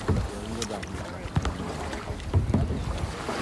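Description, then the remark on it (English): A yellow kayak moves over calm fjord water, with soft paddle splashes and drips recurring every second or so under steady wind noise, and a faint murmur of voices. “Right now, I'm staring at a yellow tip of a kayak that just looks out into the fjord, like the calm water and the mountains on both sides.”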